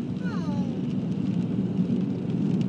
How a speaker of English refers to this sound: it's raining now, isn't it?